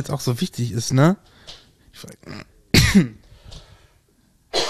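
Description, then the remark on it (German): A person talks briefly, then a sharp cough bursts out once amid quieter vocal sounds, followed by a short pause before another noise. “Gesundheit.”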